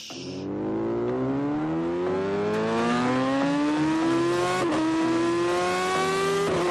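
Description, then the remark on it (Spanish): A Yamaha motorcycle engine revs up in one long, continuous pull, its pitch climbing steadily as it accelerates. It sounds loud, with no voices over it. “Arrancando nuestro programa de hoy, como siempre, con una buena Yamaha de motos.”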